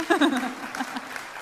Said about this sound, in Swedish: Är det någon som är född innan 1927 här? Häftigt. Du förtjänar nästan en applåd, men ja.